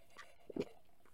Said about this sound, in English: So I'll take a sip first.